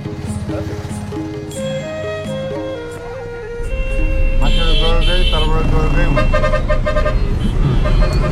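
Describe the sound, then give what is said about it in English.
Car horns blare and overlap in a congested street in Kathmandu traffic, short toots and long honks piling up over a low engine rumble, growing louder and busier halfway through. “Despite our best efforts, we're already stuck in traffic.”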